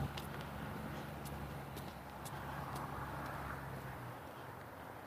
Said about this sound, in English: Wow, mail truck. They are really stepping it up here.